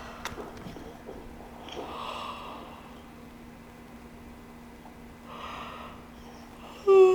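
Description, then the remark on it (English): Two long, breathy yawns drawn out over a quiet background, each a slow airy exhale with a slight vocal strain, spaced a few seconds apart. “So when I start yawning, they're clearing energy.”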